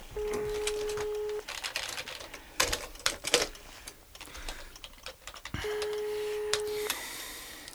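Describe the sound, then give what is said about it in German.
A phone line rings out twice with a steady, droning ringback tone, left unanswered; between the rings come quick clicky taps like buttons being pressed for dialing. “Wir müssen sofort Christine anrufen.”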